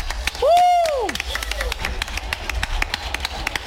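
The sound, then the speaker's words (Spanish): A burst of applause for the musician Sergio Caro, 'Niño de Ukelele', after his songs, with steady, rapid clapping throughout, opened by a loud rising-and-falling whistle or cheer near the start. “Caro, niño de Ukelele, un aplauso.”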